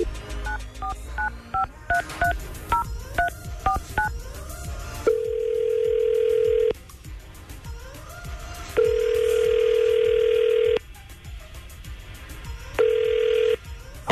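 signal or alarm, outgoing phone call ringing

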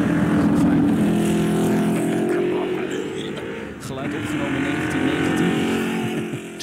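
vehicle, car engine revving

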